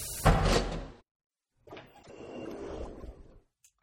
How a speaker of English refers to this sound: The keypad scanner beeped, the door slid open, and my jaw hit the ground.